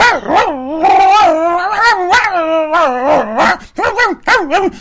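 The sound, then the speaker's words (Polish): A person imitates a bull terrier barking, producing a loud run of yelping, wavering howl-like barks that rise and fall for several seconds, with no other sounds. “car Olek do boju wysłał swego bulteriera z Nico, nowa inicjatywa cara Olka dla przypomnienia, w postaci Luli Hau Hau Gustyn. Uwaga, dźwięk zastępczy paszczą.”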